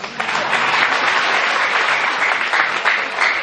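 An audience claps steadily for a few seconds, a dense, even wash of many hands at a constant loud level, with no voices standing out.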